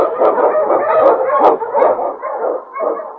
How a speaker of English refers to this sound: Wonder Dog King, swiftest and strongest of Eskimo lead dogs, blazes the trail through storm and snow for Sergeant Preston as he meets the challenge of the Yukon.